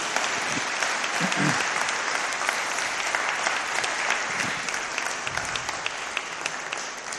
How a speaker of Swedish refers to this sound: Ni kan applådera eller något så länge.